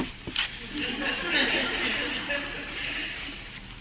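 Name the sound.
shower water running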